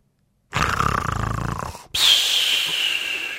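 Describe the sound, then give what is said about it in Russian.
Karlsson imitates Uncle Julius's snoring for the Kid: one loud, rattling, throaty inhale followed by a long, breathy, faintly whistling exhale, with no speech. “— скомандовал Карлсон, а потом изобразил для малыша, как храпит дядя Юлиус и как Фрёкенбок.”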